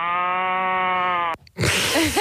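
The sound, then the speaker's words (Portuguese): Two cows moo one after the other: first a long, steady, even-toned moo, then after a brief pause a rougher, breathier call that wavers up and down in pitch. “Pá, são duas vacas a ter uma conversa, um está a ter um dia melhor atenção, do que o outro.”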